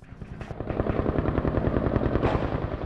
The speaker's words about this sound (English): A fierce gun battle raged in central Tunis Sunday at dusk. For 3 hours, the sounds of shooting cracked through the air and a helicopter circled overhead.